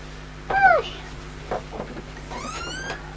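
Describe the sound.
A single short cat meow rises and then falls, clear, followed by faint household clatter and soft voices in the background.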